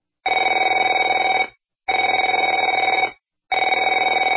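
A telephone rings three times in a steady rhythm, each loud, buzzing ring lasting about a second with short silent gaps between. No voices are heard.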